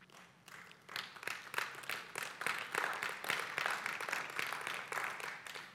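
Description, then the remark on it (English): A sparse, polite golf clap from an audience, scattered claps at first that fill into a steady, moderate patter for several seconds, heard alone without any voices. “Well, a golf clap is better than nothing.”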